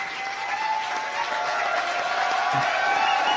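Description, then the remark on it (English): A crowd cheers and claps in a dense, steady roar, with a sustained whistle running through it for the full three seconds. No one speaks over the noise. “I can hear the whistles really well.”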